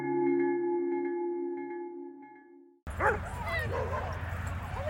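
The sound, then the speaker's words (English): A sustained steady tone fades out, then several dogs, including poodles, St. Bernards and Great Danes, break into rapid, overlapping high yips and barks at a dog playgroup on a Saturday at the Nebraska Humane Society Meadow in Omaha, lively against a busy outdoor background. “Yappy Pack Dog Playgroup is underway.”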